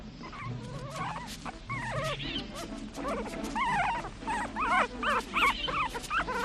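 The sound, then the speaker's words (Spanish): Wolf cubs whimper and squeal continuously beside their mother in a tall, dense juniper woodland as she watches over and nurses them, their high, wavering whines overlapping and rising and falling in quick bursts over a low background rumble with no talking. “En el alto y tupido Sabinar, la loba tiene a salvo a sus pequeños y se limita a vigilarles y amamantarles, esperando la llegada del macho que está cazando seguramente muy lejos.”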